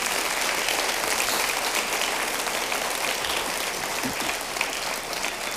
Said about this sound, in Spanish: ¿Por qué no damos una ofrenda de palmas todos juntos?